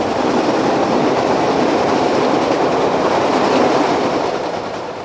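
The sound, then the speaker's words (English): A Chicago L elevated commuter train rumbles and clatters loudly over the rails, a steady roar of wheels and cars that eases off slightly at the end, with no voices. “More than a dozen stops north on Chicago's fabled L train sits the 48th Ward.”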